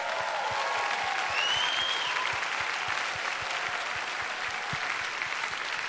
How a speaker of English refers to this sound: A real clap, huh?